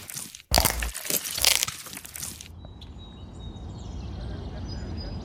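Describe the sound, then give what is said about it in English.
A loud burst of wet crunching and bones snapping as teeth bite through a person's face and skull lasts about two seconds, then gives way to a quiet low rumble with faint, high chirping tones. “I feel its teeth puncture my face and skull, sucking at my sinew like fat udon noodles, slurping my soupy blood, until the final unmistakable sound of bones snap.”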